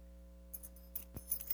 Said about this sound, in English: Keys.